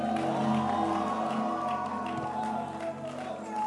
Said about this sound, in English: Let the hand clap be louder. Louder, louder still. Let your hand clap be louder. And you're allowed to add a shout to it.